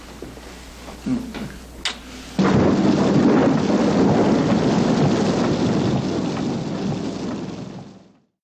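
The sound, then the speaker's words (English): A few soft knocks and clicks give way to a sudden, steady roar of heavy rain with deep thunder rumbling beneath it, a rainstorm on a highway during a drive to the airport, holding loud for several seconds before fading out. “The best visual is right after Woody Allen finds out that he has a tendency to want to veer his car into the other lane, is the three of them going to the airport in a rainstorm on a highway and Dwayne driving.”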